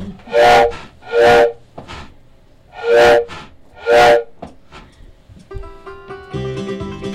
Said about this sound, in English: Is that the train I hear? Could it be drawing near? Could it be the Heaven Express?